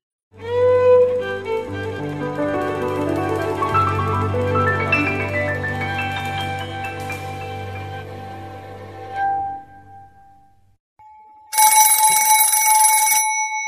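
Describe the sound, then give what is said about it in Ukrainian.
A sustained, tonal musical passage fades out, followed by a brief pause and then a single loud telephone bell ring lasting about two seconds. No one speaks. “Задзвонив телефон.”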